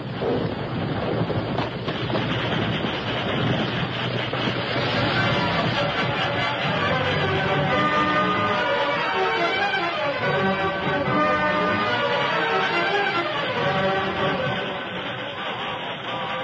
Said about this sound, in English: Every second counted in the race of the train against the landslide. Here it comes! It's going to be close! Can we go fast? Look at that dirt come! Look at that boulder! Then the full force of the landslide hit the rails.